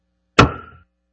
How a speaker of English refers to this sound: As you know, you can use this hammer. If you use this part, the face, it's used to knock something like this.